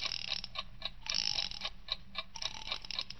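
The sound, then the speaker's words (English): An alarm clock, set for 3 o'clock, being wound up: a steady run of crisp mechanical ratcheting clicks, roughly three or four per second, with a brief grinding stretch partway through. No voices. “When she gets back from shopping around 2:30, you better set it for 3 o'clock. Good. Now then, wind it up.”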